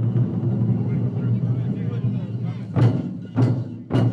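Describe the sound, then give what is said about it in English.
Taiko drums pound at the U.S. Sumo Open on the plaza of the Japanese American Cultural Center in downtown Los Angeles on an early fall Sunday, revving up a crowd of over 2,000: a deep, resonant boom, then three sharp, evenly spaced, loud strikes toward the end. “On this beautiful early fall Sunday in downtown L.A., the air vibrates with the beat of taiko drummers who are revving up a capacity crowd.”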